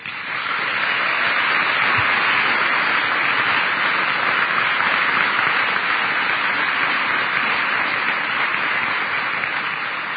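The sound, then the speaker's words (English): A large audience at a ceremony for seniors applauds steadily for the seniors' parents and family, a dense wash of many hands clapping at once that stays loud and even for about ten seconds, with no voices breaking through. “And I guess I would ask the seniors, we recognize the parents, I'd ask you to join me in a round of applause for your parents and your family.”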